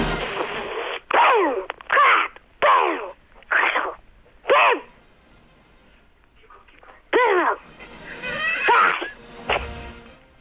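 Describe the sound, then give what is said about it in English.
A child imitates fireworks with their voice for about 10 seconds in an echoey space: a run of short, breathy bursts and whooshes, a pause, then a longer fizzing, crackly stretch ending in one more pop-like burst. “you've got 10 seconds to do your best fireworks.”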